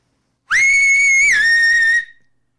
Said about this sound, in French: Elle mit ses doigts dans sa bouche et siffla longuement.